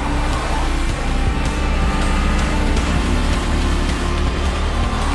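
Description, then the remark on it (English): Loud, continuous engine roar from a car and an SUV in a chase, the SUV gaining ground on the car, a dense rumbling drone with rising and surging motor noise throughout, unbroken, no voices. “Outside, the SUV gains ground on the car.”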